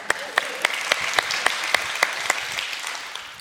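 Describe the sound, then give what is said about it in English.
A crowd claps for a man who answered a question, in a steady, even rhythm, sharp regular claps standing out above a continuous wash of scattered applause, moderately loud. “Give that man some claps.”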